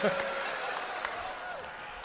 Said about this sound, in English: What are you booing?